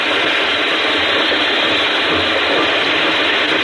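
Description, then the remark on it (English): Steam engine machinery in New England runs loud, a dense, steady mechanical clatter with ratcheting, gear-like texture that never lets up, with no voices. “Here in New England, just like I hear it in the old country, we took all them ideas about ginnins and spinning and weaving, put them all together. Got us a steam engine.”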